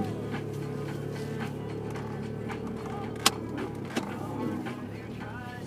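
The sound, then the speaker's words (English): A car's interior rattles steadily while the car is still cold, over a low engine hum, with quick repeated clattering taps and a couple of sharper knocks near the end, no one speaking. “Because when it's cold, it rattles like this.”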